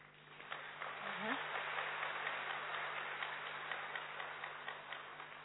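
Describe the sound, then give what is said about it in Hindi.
A crowd claps steadily, a dense wash of many hands that holds for several seconds at an even level before thinning slightly at the end, with faint voices beneath. “अच्छा है, ताली तो बजा दिया”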